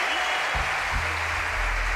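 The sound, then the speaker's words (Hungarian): Steady audience applause in the Trend FM radio studio during a morning show, a dense crackle of many clapping hands that fills the whole two seconds at an even, fairly loud level, with a low rumble underneath. “Várjál, mert van közönség.”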